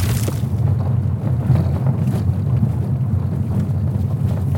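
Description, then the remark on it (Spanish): A steady, heavy low-pitched engine rumble drones continuously inside a moving car, with a faint hiss of road and wind noise above it and no voices. “Las vibraciones del motor eran la única banda sonora dentro del coche.”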